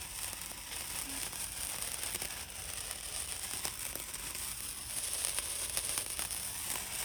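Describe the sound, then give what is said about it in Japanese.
Steady, fizzing crackle of sparks: a dense stream of tiny pops and sizzles runs continuously for several seconds at a fairly quiet, even level, with no one talking. “これさっきのパチパチのやつですね。”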